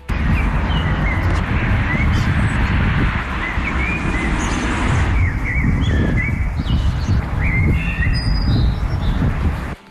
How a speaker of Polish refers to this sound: Jeden ze słuchaczy zarejestrował wczoraj ponoć kosa w trakcie godów.